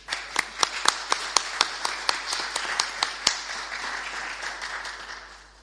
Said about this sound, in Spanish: Un aplauso, ¿no?